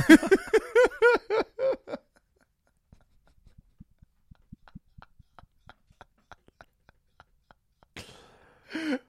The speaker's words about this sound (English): … did what a cartoon character does and sneezed while saying sneeze.